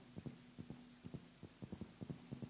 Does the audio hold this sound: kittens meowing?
no